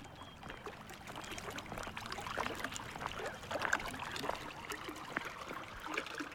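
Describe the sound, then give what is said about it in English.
Snow Creek's water flows and trickles steadily through the West Anniston neighborhood, a continuous bubbling babble with small splashy details, moderately quiet, with no voices. The creek is connected to a chemical plant by a ditch. “Snow Creek winds through the West Anniston neighborhood and is connected to the chemical plant by a ditch.”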